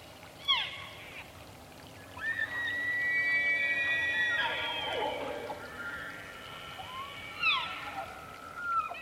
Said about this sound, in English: It's still dark, but we can hear elk on all three sides of us slowly getting closer.